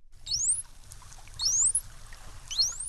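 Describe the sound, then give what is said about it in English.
A bottlenose dolphin's signature whistle, three times over: the same high, rising whistle repeats at an even pace above a low, murky underwater rumble, with no talking. “Here is the way a bottlenose dolphin might say hello.”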